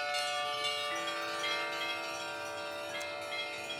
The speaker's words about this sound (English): There's apparently more than 100 compositions for these bells, and I also understand there's a website that you can go onto and compose your own if you're that way inclined, and put it in to say, I'd like my composition to be played.